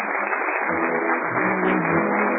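A theater audience at the Berlin Theater off Times Square breaks into sustained applause for a play, a dense, steady wash of many hands clapping that holds at an even, fairly loud level throughout, with no voices.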